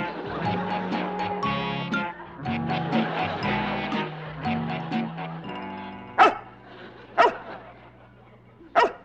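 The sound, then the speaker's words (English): A dog vocalizes in long, wavering whines and yowls, then lets out three sharp, loud barks spaced roughly a second apart. “You stupid dog.”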